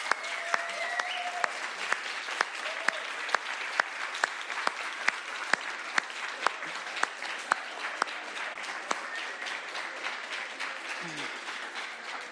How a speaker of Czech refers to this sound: Bylo úplně luxusní a myslím, že kuchaři a kuchaři si zaslouží náš potlesk.